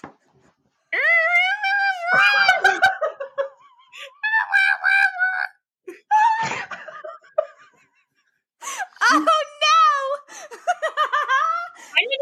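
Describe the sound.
A person imitates a monkey with loud, high-pitched wavering hoots and shrieks, delivered in several bursts separated by short pauses, with some giggly, laughter-like squeals mixed in.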